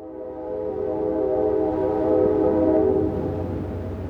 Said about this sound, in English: Freight train down in the valley, coal train, looks like.